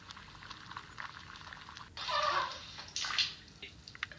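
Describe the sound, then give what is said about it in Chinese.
A pot of cake mixture bubbles and simmers steadily over a gentle flame as it is cooked down, with two louder surges of rushing, gurgling boil partway through before settling back to a soft, crackly bubbling. No voices. “糕要熬透，水要熬纯，吸水就是吸味啊。”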